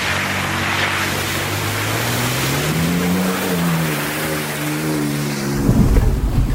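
A car engine revs steadily, its pitch rising and falling under a constant wash of rushing noise, then a sudden loud splash near the end as it drives fast through water.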